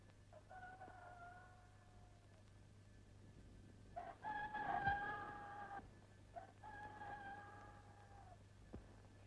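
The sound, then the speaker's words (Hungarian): A rooster crows three times in a row, each call a drawn-out cock-a-doodle-doo, the middle one louder, with a steady low hum underneath and no talking. “Hogy a nyavaja essen bele ezekbe az elkozott kakasokba.”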